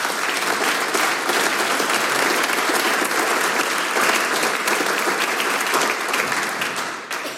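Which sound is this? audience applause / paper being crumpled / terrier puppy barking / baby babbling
audience applause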